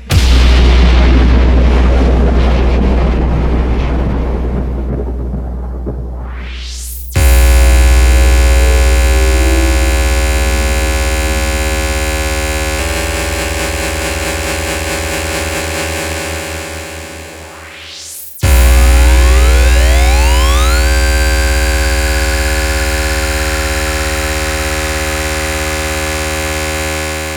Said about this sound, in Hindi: सभी कमजोर दिल वालों से मेरी विनती है, कृपया वे डीजे सेटअप से दूर रहें। क्योंकि मेरे डीजे के घनघोर कड़कड़ाहट की आवाज को शायद आप सह नहीं सकेंगे।